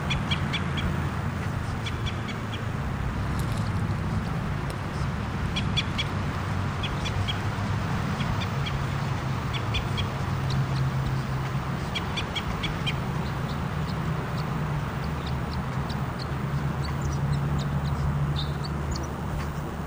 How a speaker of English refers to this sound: Here's the bird. It's close by.